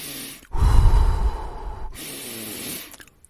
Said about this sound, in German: Dafür legen wir die Hände auf den Bauch, oberhalb der Gürtellinie, knapp so etwas oberhalb des Bauchnabels. Und auch jetzt versuchen wir mal nur in unsere Hände zu atmen. Gebt ein bisschen Druck mit den Händen, dann ist es einfacher.